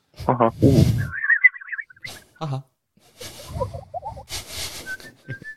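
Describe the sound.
A parrot whistles in wavering, warbling phrases, one long trilled run followed by lower chirpy notes and a few short high peeps, with bursts of human voices between them.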